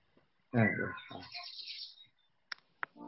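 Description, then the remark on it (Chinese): Brief, bright bird chirps and tweets rise and flutter over about a second and a half in a film being played, followed by a couple of sharp clicks and a short muffled burst. Moderately loud. “可以的，有鸟叫的声音。”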